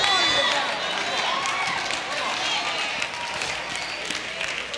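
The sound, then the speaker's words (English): An audience claps during a sermon in a loose, uneven patter that holds steady throughout, with murmuring voices mixed into the crowd noise. The clapping is moderately loud and continuous rather than building to a big ovation. “I know y'all, I ain't getting a whole lot of hand claps on this.”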